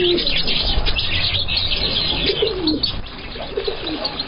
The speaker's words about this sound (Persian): مردم از زیبایی های این ساحات استفاده می کنند که از سقف زینه ها سنبل های تر و تازه چون چلچراغ مساجد به هر طرف آویزان است و صدای پرندگان خوش آواز نیز گوش های هر شنونده را نوازش می دهد.